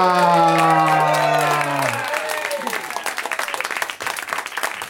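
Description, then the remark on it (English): An audience bursts into loud, sustained applause with whoops and cheers as four panel guests are brought out, dense clapping continuing throughout; a held sung or shouted tone rings out over it at first before fading into the crowd noise. “Listen to the crowd go nuts.”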